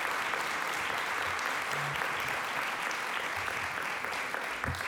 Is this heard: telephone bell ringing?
no